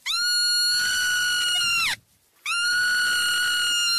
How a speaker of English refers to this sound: I was holding a baby marmot, and suddenly it screamed, and I had this emotional response. And I wondered why I'm having an emotional response to a rodent, you know, screaming. And just for reference, this is what a screaming baby marmot sounds like.